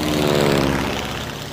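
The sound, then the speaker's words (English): A propeller airplane drones steadily overhead, its engine a loud, buzzing hum with a constant pitch that fades only slightly over a brief moment, with no voices. “We can add planes and automobiles.”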